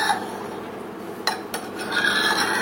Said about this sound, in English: I hate metal on metal. I just hate it.